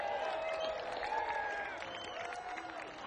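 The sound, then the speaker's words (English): An audience at a live music show applauds the sound man, Sean Wall, steadily, dense clapping mixed with a few cheers and whistles, holding a fairly even loudness for the whole three seconds. “This is the curveball for the sound guy, but give a round of applause to Sean Wall, our sound man back there.”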